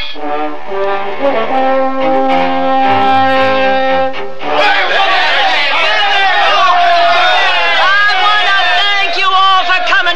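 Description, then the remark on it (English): A sustained, horn-like tone from a train coming into a station in Denver sounds for several seconds, then gives way to a loud, dense crowd gathered at the station, many voices chattering and calling at once. “Yeah, we're coming into the station. Would you look at that crowd?”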